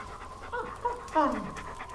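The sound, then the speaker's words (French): A female dog named Junon pants in quick, steady breaths, with a few brief whiny, voice-like tones rising over the panting at moderate loudness. “Tu me reconnais, hein? La brave chienne.”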